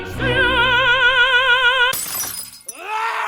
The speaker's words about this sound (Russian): Самый яркий пример – это когда певец голосом разбивает стакан.